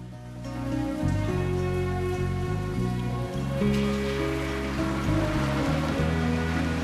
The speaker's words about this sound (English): In torrential rain, without a coat, Nikki is quickly drenched.